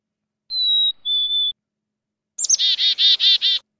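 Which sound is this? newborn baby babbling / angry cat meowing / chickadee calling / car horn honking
chickadee calling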